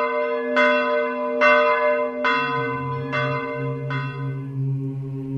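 Orthodox church bells in Kosovo and Metohija ring in five steady, evenly spaced strikes with rich, lingering overtones, while a deeper bell tone joins partway through and hums underneath. No one speaks.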